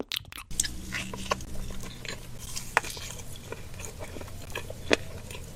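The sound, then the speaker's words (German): Wet smacking and crunching of someone chewing food with the mouth open, irregular bites and smacks continuing throughout with no talking. “Also eine Überempfindlichkeit gegenüber bestimmten Geräuschen, wie beispielsweise Schmatzen.”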